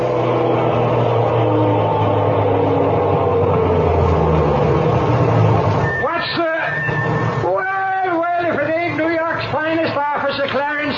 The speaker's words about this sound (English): Here comes the garbage truck back from his run.